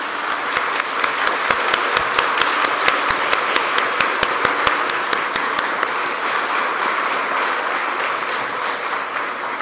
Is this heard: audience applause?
yes